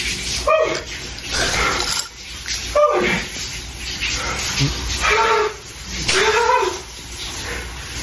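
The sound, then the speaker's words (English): An ice cold shower runs with a steady hiss of spraying water, while the man taking it cries out in short, wordless yelps and gasps several times over it. “He's taking an ice cold shower.”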